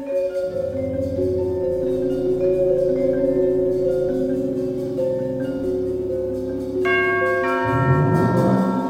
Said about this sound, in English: The garage chimes and the door rolls up. It reveals a car waiting inside. After a long wait, the door rolls down again.